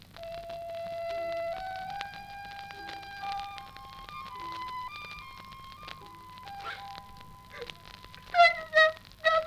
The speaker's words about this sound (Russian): Пролетал шмель.